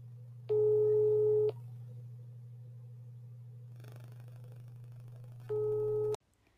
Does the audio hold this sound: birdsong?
no